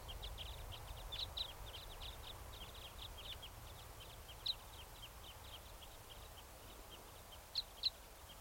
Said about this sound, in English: That was a bird. Just flew over.